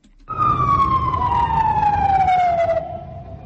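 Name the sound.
ambulance and police sirens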